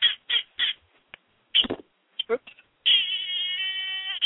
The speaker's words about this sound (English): It's this little round noisemaker. It's got little pigs on it and little cats.